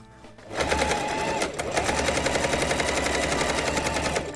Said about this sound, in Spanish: Entramos con esta máquina, a ver, máquina de coser. Escuchamos a la máquina de coser.